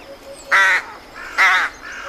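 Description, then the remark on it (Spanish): Two loud, harsh caws from a crow or rook, evenly spaced about a second apart, each a raspy burst with fainter calls and background birdsong between them. “Y luego entre los córvidos, grajas, cornejas, cuervas, cuervos, todos dicen graj, cor.”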